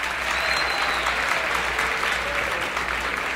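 Sustained applause from a sizable audience at Mr. Lucky's, welcoming a band and a piano player from Hollywood, California, fills the whole stretch, a dense, steady wash of clapping that stays loud and even without pause, with faint crowd murmur mixed in.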